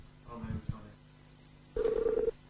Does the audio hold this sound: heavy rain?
no